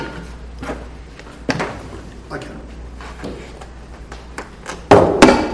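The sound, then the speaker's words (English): A heavy chair scrapes and thumps as it is shifted, ending with two loud knocks as it is set down, while a person speaks briefly in the background. “I guess, Can you hear the chair?”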